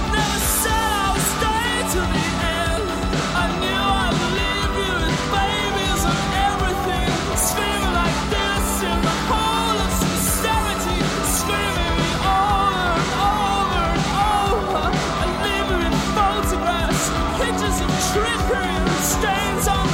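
A dense, loud rock song plays continuously, with steady drum hits driving beneath layered guitars and keyboards, and a wavering vocal line woven through the thick mix.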